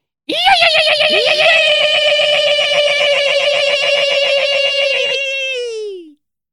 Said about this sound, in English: This bunker alarm's for you.